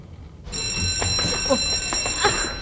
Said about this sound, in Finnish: Pidä itse korvat auki. Kello soi jo.